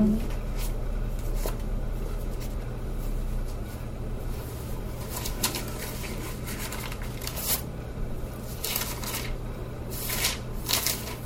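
Dry rustling and flicking of thin paper pages that are stuck together being pulled apart, with scattered crisp bursts over a steady low hum, and no clear talking.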